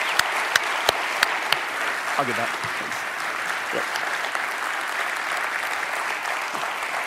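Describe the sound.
Sustained audience applause, a dense steady clatter of many hands clapping throughout, with a few sharper claps early on and a brief spoken voice mixed in.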